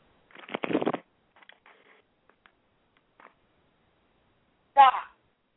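A quick riffle of playing cards being shuffled, a dense papery burst under a second long, followed by a few faint soft clicks and a short sharper rustle near the end.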